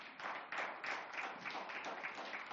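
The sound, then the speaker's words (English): An audience claps their hands for Jesus during a sermon in a steady, continuous wash of applause, sounding muted, with no voices standing out over it. “Come, let's clap our hands for Jesus.”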